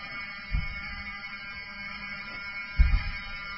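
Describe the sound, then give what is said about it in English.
A building fire alarm at the Westfields Marriott outside D.C., in Chantilly, rings steadily as a continuous electronic tone while everybody exits the building, with a couple of low thumps or bumps breaking through underneath. “the fire alarm goes off. So everybody is exiting the building.”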